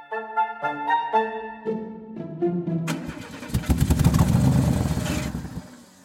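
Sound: car engine starting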